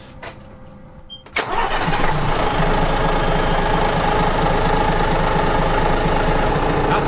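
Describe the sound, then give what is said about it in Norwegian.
A key clicks and a boat's port-side marine engine cranks briefly, then catches at about 1.4 seconds and settles into a loud, steady idle with a throbbing rumble that carries on to the end. “vi vrir om nøkkelen, og så ser vi om det skjer noe, da. Ta babord først.”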